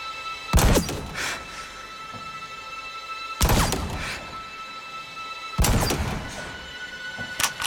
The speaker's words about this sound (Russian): Совмести прицельную планку, мушку и мишень. Тише ровно. задержи дыхание и мягко нажимай на курок. И выстрел.